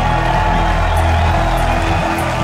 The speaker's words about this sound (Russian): Аплодисменты, господа.